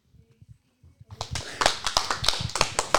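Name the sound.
applause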